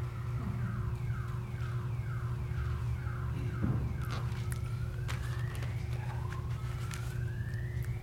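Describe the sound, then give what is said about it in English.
A car alarm blares outside, cycling through rapid repeating falling chirps and then rising electronic whoops over a steady low background hum with no one talking. “if I was a car thief, I would not steal a car except that it was doing that, because that's the most ignored sound”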